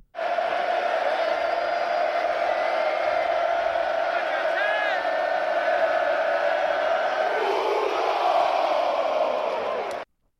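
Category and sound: crowd, crowd cheering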